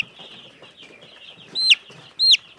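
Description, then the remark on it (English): A young chicken clucks with two loud, high, chirpy calls in quick succession, over a steady backdrop of faint peeping and soft rustling from about 80 baby chicks kept in the house. “The little chicks are kind of easy to catch.”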